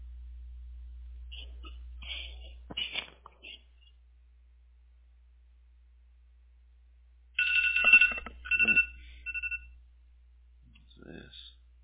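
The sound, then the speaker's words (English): A phone alarm labeled "Stretch and run" sounds in two bursts of high, electronic chirping tones, a short one early and a louder, longer one later, over a steady low hum. “An alarm going off.”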